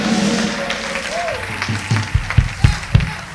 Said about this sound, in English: Get a sound man a big round of applause, y'all. Come on.